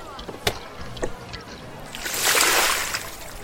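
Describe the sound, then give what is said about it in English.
A couple of sharp clunks, then water drains out through an opened door, gushing and sloshing in a swelling, rushing wash that holds steady toward the end, with faint voices murmuring in the background. “Open the door. Drain the water out.”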